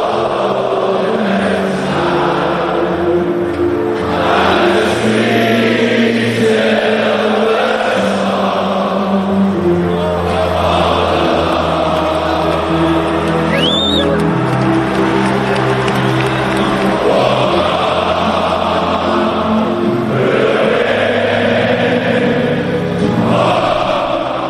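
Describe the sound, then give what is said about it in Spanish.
A huge stadium crowd sings a football anthem together, a loud, continuous mass of voices holding long melodic notes over a steady roar, swelling and sustaining without pause throughout. “Yo no sé a ustedes, pero a mí como aficionado al fútbol, cada vez que escucho esta canción se me ponen auténticamente los pelos de punta.”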